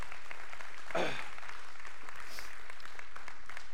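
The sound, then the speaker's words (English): An audience claps steadily, a dense, even patter of many hands that lasts the whole stretch, with one brief voice cheering early on. “Would you guys please clap for those people and say thank you?”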